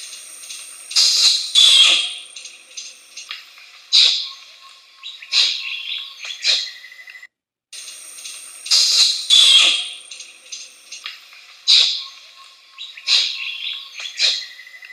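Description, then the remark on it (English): An orangutan from the jungles of Indonesia and Malaysia makes kiss-squeak calls: sharp, high, squeaky bursts in quick uneven clusters, fairly loud and with no talking, the same run of squeaks sounding twice after a brief gap. “Only this time, it's the orangutan's kiss-squeak sound.”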